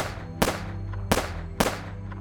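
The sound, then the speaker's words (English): Three sharp, loud gunshots ring out at uneven intervals, heard by people in a car parked near the Royal Perth Golf Club, each a sudden crack that fades quickly, over a steady low droning background with no talking. “But the music didn't drown out the sound of 4 gunshots.”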